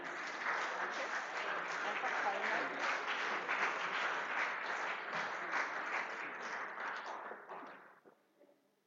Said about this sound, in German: Applaus